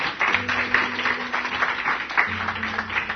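Steady applause from an audience, a dense crackle of many hands clapping at a loud, even level throughout, with a low hum running beneath it.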